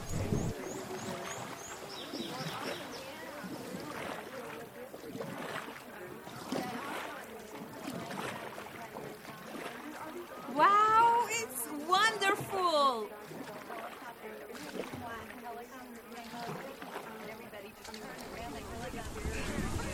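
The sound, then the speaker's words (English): A raft rushes through churning water with steady wind noise, while people talk and shout excitedly throughout, their voices rising loudest in a burst near the middle. “So zip up your life jacket and sit down in your rafting boat.”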